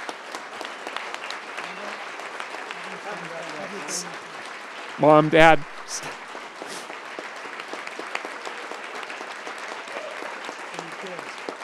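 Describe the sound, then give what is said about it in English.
A crowd applauds steadily for the whole stretch, a dense crackle of clapping, with a voice briefly calling out loudly over it midway. The audience at the event for Weber State's next president is applauding his parents, who drove down from Idaho. “I talked about my parents a little bit the last couple of days, and they took a risk and drove down from Idaho this afternoon, so please give them a round of applause.”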